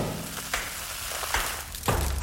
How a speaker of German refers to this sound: Und dann so dieses Tropfen. Oh. Ja, Leute, Sektkorken knallen. Auch so ein Geräusch, was einigen von euch gute Laune machen könnte.